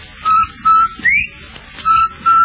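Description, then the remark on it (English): A whistled bird call that seems to say "rinsel white": a string of short, clear tonal phrases in a steady rhythm, with one brighter note sliding upward midway, fairly loud. “Is that bird saying rinsel white?”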